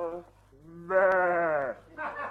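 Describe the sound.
A person imitates a sheep with a loud, wavering, drawn-out bleat, framed by shorter voiced sounds just before and after.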